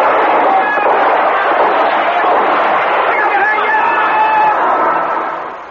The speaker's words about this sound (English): Here come the choppers. Opening up on the choppers. Well, give them some cover fire. There's a SWAT team. SWAT team over here, boys.